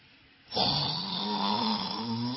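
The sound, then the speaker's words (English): After a brief quiet moment, a voice imitates snoring, a loud, drawn-out, single rough, rattling inhale that lasts about two seconds. “I've seen somebody snore in a prayer meeting.”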